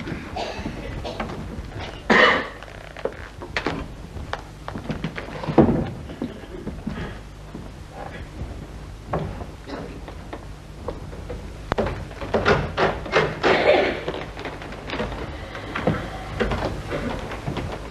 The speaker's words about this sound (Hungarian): Az ajtó nyílik, Az altiszt jön be a késsel, leteszi az asztalra és távozik.